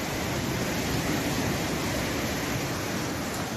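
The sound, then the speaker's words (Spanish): A steady, loud roar of rushing floodwater inside a cave, with the water level too high to advance. The roar is dense and unbroken from start to finish, like a powerful churning flow, with no voices over it. “El nivel del agua de la cueva era demasiado elevado, por lo que no podían avanzar.”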